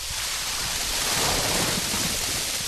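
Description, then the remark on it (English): A truckload of unsold, semi-rotten produce from Walmart and Sam's Clubs in western and central Pennsylvania (pumpkins, squash, apples, peppers, lettuce, potatoes, pineapples) dumps out in a loud, continuous wet rush, a steady roaring cascade of sloshing material with no talking. “At first, a trickle of liquid and small bits of produce drip from the truck. And then...”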